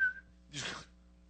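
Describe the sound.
A person whistles a short, clear note that trails off within a quarter second, followed by a brief breathy rush of air. No one speaks.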